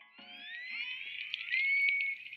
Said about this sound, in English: And what you are listening to is orca whale whistle sounds, which is one of the sounds that orcas will make to talk to other members of their pod.